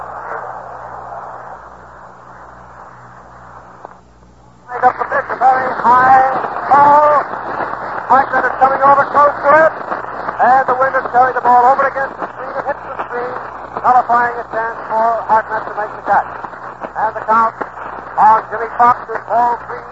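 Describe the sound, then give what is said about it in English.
A large baseball stadium crowd stands, roaring and cheering in a dense, sustained wash of many voices, an ovation for Joe Medwick's long home run into the upper deck of the left field stand that puts the National Leaguers ahead 4-0. It starts abruptly after a few seconds of muffled hiss and stays loud with surging swells. “Listen to that crowd for a moment.”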